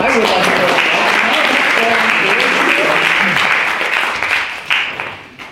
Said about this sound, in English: Thank you very much. Can we have another huge round of applause for our Russian team?